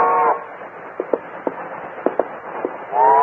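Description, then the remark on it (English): The distant whistle of a train passing through a valley sounds a steady, chord-like tone, then a handful of sharp, scattered clacks follow before the whistle blows again, loud and sustained, at the end. “As it passed in the valley, the whistle again sounded.”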